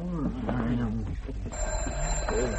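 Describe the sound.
A voice fills the first half, then a telephone rings with a steady, high-pitched electronic tone that holds through the rest, with lower murmuring sounds continuing underneath.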